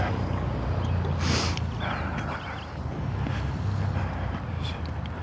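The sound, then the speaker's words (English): An orange motorcycle's engine rumbles low and steady outdoors on an overcast morning, its drone swelling slightly as it goes by, mixed with gusty wind noise across the microphone; no one speaks. “Spiffy orange motorcycle.”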